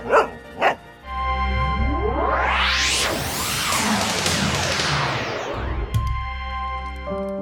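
A dog named Altai gives two quick barks, then a long sweeping whoosh rises and falls over a steady tonal hum, with no one speaking.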